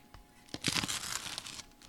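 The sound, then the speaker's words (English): A knife slicing through a crisp quesadilla on a synthetic cutting board, with a burst of crackly, crunchy breaking sounds lasting about a second, fairly clear with no talking. “That is a quesadilla, a perfect quesadilla being cut.”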